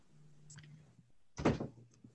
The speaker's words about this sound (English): close that door, please